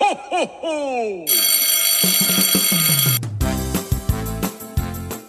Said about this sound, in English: Well, kids, the dismissal bell is ringing.